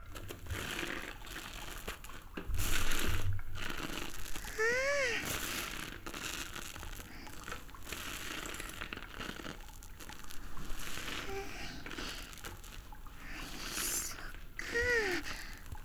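Soapy squishing and crackling as plenty of soap is lathered on a sponge beside the listener's ear for washing a back, going on steadily, with a few brief higher-pitched squeaks mixed in.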